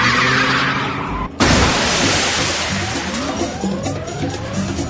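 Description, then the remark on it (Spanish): A high-powered car's engine roars with tires skidding, then a sudden loud crash hits as the car rams into a shop window, followed by a wash of scattering debris as the engine keeps revving. “Haciendo alunizajes, es decir, empotrando coches de gran cilindrada en escaparates de tiendas como joyerías.”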